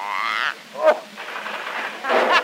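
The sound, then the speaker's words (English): A loud, rasping snore from an Irishman: a croaking, buzzy inhale, a sharp snort in the middle, then a breathy, rattling exhale, with no talking. “It's that Irishman in up the forest snoring.”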